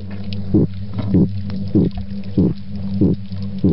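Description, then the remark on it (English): Female midshipman fish grunts: five short, low, thumping pulses at an even pace, roughly every half second, over a steady low droning hum, with no voices. “Females make a sound known as a grunt. It's very brief.”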